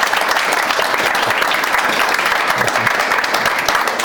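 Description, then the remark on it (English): Steady, dense audience applause for Mark Prescott and Andy Mayer after a question session fills the whole stretch, many hands clapping at once in a loud, even wash of crackling claps with no pauses and no voices on top. “A round of applause for Mark Prescott and Andy Mayer.”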